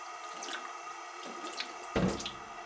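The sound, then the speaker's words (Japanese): Running water splashes steadily at a sink as dirt is rinsed off the dishes before washing, with a louder gush and clatter near the end; no one speaks. “ほら、先に汚れを水でザザッとお流しください。”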